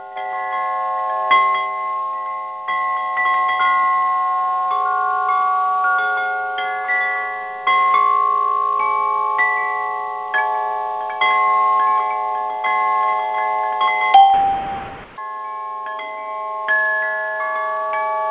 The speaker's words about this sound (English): To the solfeggio tones. I'm going to start with these particular tones to set a frequency.